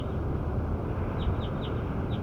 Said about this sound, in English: Here we go, Bird 7 again. Bird 7.